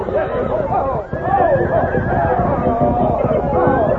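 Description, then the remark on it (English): Several palomino horses ridden by 18 cowpunchers in Antelope Basin, out of their riders' control, neigh and whinny loudly and almost continuously, their shrill cries overlapping in an agitated jumble, with faint hoof clatter and commotion underneath. “18 cowpunchers discovered they couldn't control their palomino horses.”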